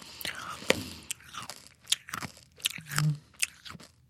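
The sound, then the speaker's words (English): Crisp crunching of small hard Tic Tac mints being chewed, a string of sharp irregular snaps and grinding bites with faint mouth sounds between them. “I still have Tic Tacs in my mouth, so. Can't you hear that? I'm going to chew them all while staring at you.”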